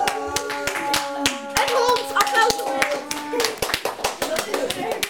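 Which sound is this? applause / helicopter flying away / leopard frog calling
applause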